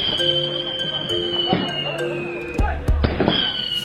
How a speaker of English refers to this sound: But the celebrations can get pretty intense. Firecracker safety goes out the window. They're often taped to the groom.